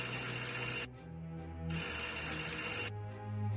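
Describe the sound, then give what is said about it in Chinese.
A telephone bell rings loudly, two long metallic trills separated by a brief pause, with no voices present. “还没有等到他拿起电话，电话铃突然响了起来。”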